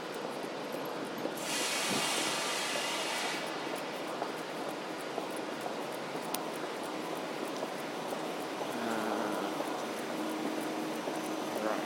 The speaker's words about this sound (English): There is a train also there.